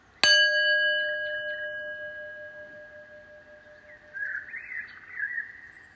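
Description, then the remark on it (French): A meditation gong is struck once with a sharp attack, then rings out in a long, steady, slowly fading tone; faint bird chirps appear in the background toward the end. “Si je peux, je ferme les yeux et j'écoute le son du gong jusqu'au bout.”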